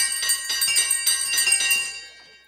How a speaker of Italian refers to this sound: appena appoggiò la testa allo schienale, si accorse che il campanello della stanza, quello usato per chiamare la servitù in tempi andati, tintinnava. Prima piano, poi sempre più forte. E non solo quello. Tutti i campanelli delle stanze trillavano.